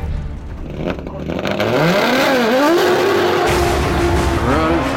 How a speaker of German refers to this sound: Und dann habe ich irgendwann gesagt, Herr Röhrl, aber der Motor ist jetzt schon warm, jetzt können Sie schon mal Gas geben.